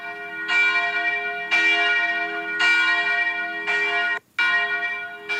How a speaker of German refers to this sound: Vielleicht auch, weil in Krumbach-Schwaben, wo ich ja her bin, die Michaelskirche so bekannt ist. Da habe ich sogar das Glockenläuten. Moment.